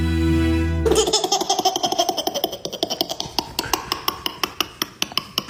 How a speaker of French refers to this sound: Et on commence avec des rires de bébé, le rire d'un bébé.